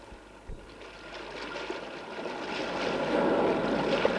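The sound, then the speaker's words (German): Steady rushing and trickling of flowing water that gradually swells louder, with a soft knock near the start, as a raft of ship planks tied together with cords is pushed into a river and carried along the current into a mountain. “Mit Schnüren banden wir einige der herumliegenden Schiffsplanken zu einem Floß zusammen, schoben es in den Fluss und los ging die Fahrt in den Berg hinein.”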